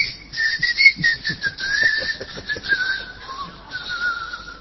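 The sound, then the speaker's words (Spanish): A whistle is blown at a plaza to announce closing time, one long, shrill sustained tone held for several seconds, wavering slightly and sinking gradually in pitch, over a rough, busy background noise. “Sí, suena el silbato, señor, y usted no... Sí, es como un silbido, ¿no?”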